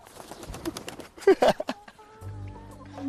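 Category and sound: bird, chickens clucking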